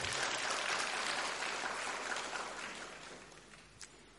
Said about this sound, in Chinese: 让我们再热切的鼓掌